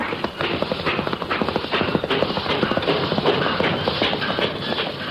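Rapid, steady clip-clop of horse hooves at a gallop, dense, with a continuous rumbling noise underneath throughout, as a horse races Peter Cooper's Tom Thumb locomotive.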